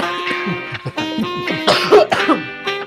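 A few rough, bursty coughs, the strongest pair close together near the middle, standing out over a steady humming tonal background.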